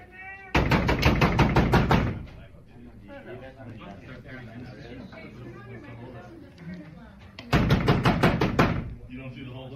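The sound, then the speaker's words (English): Two loud bursts of rapid, repeated banging on closed doors, each lasting a second or two, with a muffled crowd murmuring and voices talking in the gap between them. “We have a couple people in here with us, and they just keep banging on the doors.”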